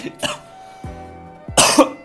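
A person coughs close to the mic, with one short cough near the start and a harsher, louder burst of coughing near the end, plus throaty breaths in between.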